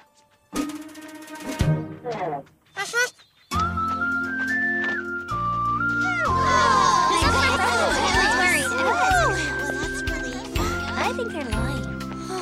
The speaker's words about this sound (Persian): قلب همتون رو با یه تصنیف سوت آرامش بخش که مدتیه داره روش کار میکنه به خونه هاتون همراهی میکنه.